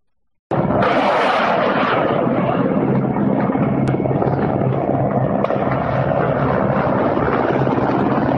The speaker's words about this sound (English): footage that the New York Times has verified showing Russian helicopters circling near Kiev and firing directly at an airport